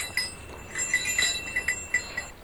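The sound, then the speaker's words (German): Small bells clink and jingle in a scattered, irregular rhythm as goats on the Alpe Sonnhalde alpine pasture near Oberstaufen immediately gather at a gate, with a faint outdoor hush underneath and no talking. “Die Ziegen sammeln sich sofort am Gatter.”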